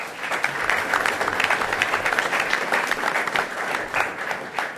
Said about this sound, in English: One more round of applause for our students.